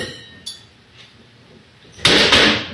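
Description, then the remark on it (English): A man slams cupboard doors shut: a sharp knock, a faint thud, then two loud, heavy slams close together near the end, with no talking. “That's him slamming the cupboards.”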